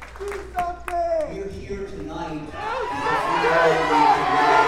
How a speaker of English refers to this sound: The crowd spontaneously breaking out into a chant of "Do something."